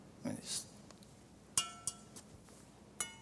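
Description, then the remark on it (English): Glasses holding about the same amount of water are clinked together in a few sharp, bright taps, each leaving a short high-pitched ring, spaced irregularly after a brief murmur at the start. “Well, that one sounds a little bit different, but looks like they have about the same amount of water in them.”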